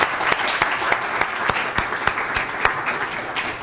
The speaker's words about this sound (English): So please give them a round of applause for their volunteer service.